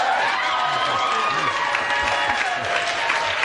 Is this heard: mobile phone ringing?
no